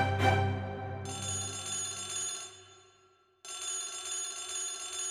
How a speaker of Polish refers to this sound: Tymczasem ja, dodał, ale nie skończył, bo w torebce żony zabrzęczał telefon.